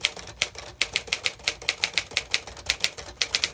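typewriter keys clacking

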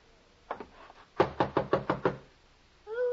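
knocking on a door

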